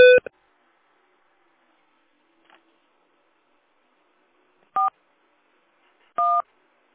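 Telephone keypad tones as someone enters a personal account number on the phone keys for an automated phone menu: a short two-tone beep at the start, a faint blip midway, then two more crisp dual-tone presses spaced over a second apart, each lasting a fraction of a second, with silence between.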